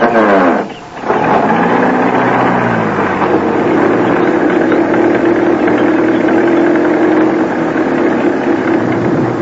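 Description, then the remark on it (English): An old car engine starts up, briefly dipping before revving into a loud, steady rumble with a throaty, slightly rattling drone that holds for several seconds, no voices. “In that ridiculous old car.”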